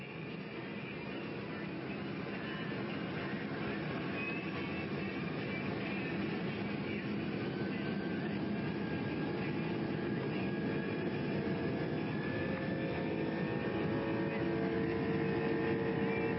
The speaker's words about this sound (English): Take a listen to this RB211 on an L1011, which I'll get to in a minute. Listen to this thing on takeoff. Listen to this thing purr.